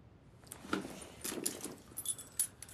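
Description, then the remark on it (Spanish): Keys jangle in a quick cluster of bright metallic clinks, fairly quiet, with a few separate chimes as the bunch is shaken and handed over. “Aquí tienes las llaves de las reglas familiares.”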